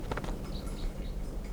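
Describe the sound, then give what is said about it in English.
A wild bird down the hill calls faintly, giving a few short, high whistled notes spaced apart over a steady, low, rumbling background noise. No one speaks. “There's a wild bird down the hill.”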